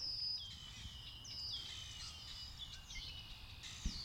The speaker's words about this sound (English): Now, it might sound like we're in some sort of aviary. We are surrounded by so many beautiful birds right now, but in fact, we are at lovely Valkill, a place that was all Eleanor Roosevelt.